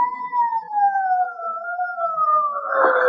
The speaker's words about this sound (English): Well, here they come. Where are they? I don't know. Sirens. Can't you hear them? What's that? I said sirens.